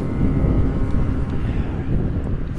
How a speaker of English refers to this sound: That was a loud motorcycle.